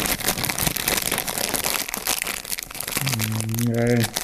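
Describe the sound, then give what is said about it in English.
A crinkly packet is rustled and scrunched for about three seconds, a dense crackling texture, before a voice cuts in over the end of it. “Well, would you like me to cover up the quicksand with some rustling?”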